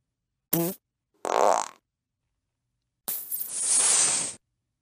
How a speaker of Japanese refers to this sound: じゃ、女王様の、おなら、ありがたーく嗅ぎなさい。